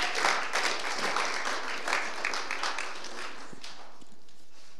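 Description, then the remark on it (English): A crowd applauds as a three-person panel is invited up, a dense patter of many hands clapping at once, fairly loud at first and gradually thinning out toward the end with no voices over it. “let's give them a hand, please, everyone, while you're clapping.”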